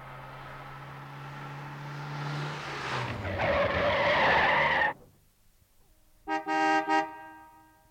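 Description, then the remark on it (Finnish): A car engine rumbles as the car drives up to a facility where a guard stands outside, then tires screech loudly as it brakes hard to an abrupt stop. After a brief silence, a horn gives two short honks. “vartija seisoo laitoksen ulkopuolella, siihen ajaa auto, josta nousee toimittaja Routa”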